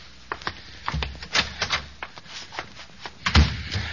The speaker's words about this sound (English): I know. I'll go in the closet here, and I'll close the door and turn on the light there.